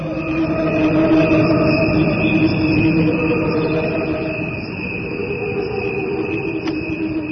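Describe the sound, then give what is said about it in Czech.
A steady, high-pitched chirring drones on throughout, like crickets calling, over a dense low rumble. The sound holds fairly loud and even, with no talking. “Muzika Svrčaka je muzika malih intervalskih raspona, kao muzika srpskog jezika. Naš jezik je bio kao žabe, svrci i fru.”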